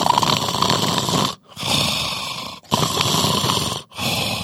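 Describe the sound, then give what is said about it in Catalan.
Loud, rasping snoring of a sleeping person in long continuous breaths separated by brief silent pauses, about three snores in a row with a rough, fluttering texture and no talking, made as air passing through the airway strikes its muscle and mucosa. “doncs l'aire, quan passa a través d'aquest tub, ha de com obrir les parets per les quals estan passant, i per això ha de fer com petits cops a la musculatura i a la mucosa d'aquest tub per on respirem, i per això apareix aquest soroll”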